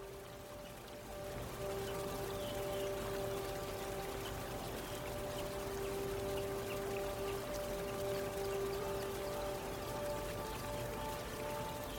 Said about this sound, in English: Their gentle sound blends with the sound of the rapids.